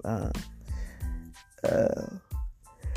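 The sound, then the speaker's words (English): A long, drawn-out yawn: a voiced, groaning exhale that slides in pitch, followed by a few shorter breathy vocal sounds, fairly loud and with no words spoken. “So I had to yawn, sorry.”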